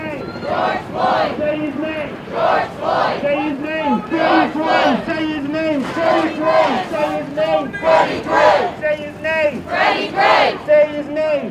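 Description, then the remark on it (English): A large crowd of demonstrators marching toward Sandtown in Baltimore chants Gray's name in unison. Loud voices repeat the short name in a steady rhythm, each shout rising and falling with brief gaps between repetitions. “As the demonstrators approached Sandtown, the neighborhood Gray grew up in, his name rang through the streets.”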